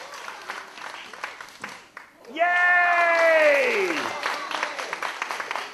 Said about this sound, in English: Big round of applause for our new circus performer.